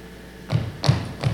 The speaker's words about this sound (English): Footsteps. Aggressive footsteps.